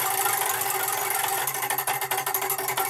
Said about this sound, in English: Let's spin the wheel.